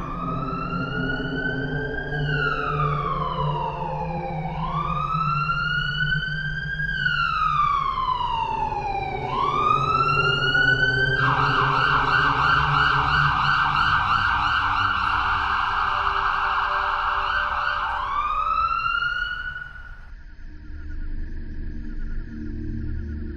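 An ambulance siren wails loudly at one in the morning, sweeping up and down in slow cycles, then switches to a rapid yelp for several seconds before cutting off, leaving low traffic rumble.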